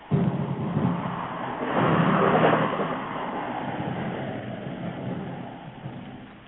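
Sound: car driving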